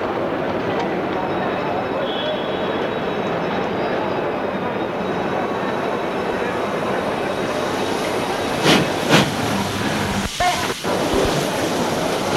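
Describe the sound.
An old train, running in place of the RER because of a strike, rolls into a station with a steady, broad rumble, then brief bright squeals and clanks as it slows at platform 1, with faint voices in the background.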